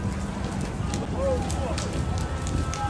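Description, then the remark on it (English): A bonfire burns with a steady, dense roar and scattered sharp crackles and pops throughout as the fire catches the next building, with faint, indistinct voices in the background. “Do bonfire right here.”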